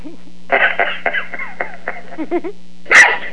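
A quick string of high, yappy barks from a little lap dog, several short bursts tumbling together, then a pause and one final louder yip, over a steady low electrical hum.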